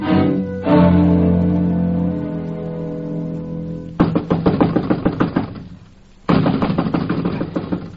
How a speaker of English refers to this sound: I'm wearing my knuckles to the bones knocking on this door, Chief.